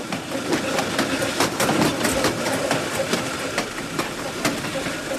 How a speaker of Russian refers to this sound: Поезд на подходе к Блю-Риверу.